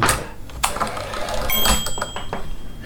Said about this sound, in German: Das macht nur ein tolles Klickgeräusch. Also wenn man ganz am rechten Rand ist, macht den Klick. Und dann schiebt man sie wieder wie eine normale Schreibmaschine nach links.